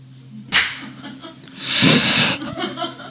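A single sharp, loud hand clap, made as a marker for editing a recording, cracks out over a low steady hum, followed by a longer burst of breathy, noisy sound and a few softer scuffs.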